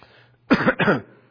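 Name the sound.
coughing and throat clearing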